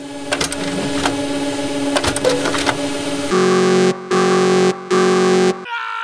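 An office printer clatters and whirs with rapid mechanical clicks, then lets out three loud, sustained buzzing drones separated by short pauses, followed by a brief rattle.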